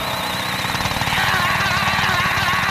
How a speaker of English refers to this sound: You see, my new hacker drill can break through anything. Start drilling!